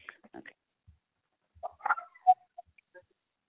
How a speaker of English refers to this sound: I'm so sorry. One second. I got a little yappy dog here.